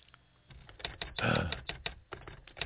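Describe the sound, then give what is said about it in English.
Rapid mechanical clacks of a manual typewriter, striking in an uneven burst with a louder, sustained scraping rattle midway as the carriage is pushed back. Fairly loud, with no talking. “No, it's an actual typewriter, a manual typewriter. I heard them push the carriage back.”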